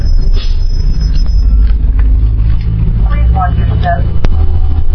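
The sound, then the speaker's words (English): A steady, loud low engine rumble fills the inside of a moving bus approaching Apache Boulevard, with a constant droning hum throughout and faint, indistinct voices briefly surfacing in the background. “We're on the bus and we're tracking 8 satellites right now.”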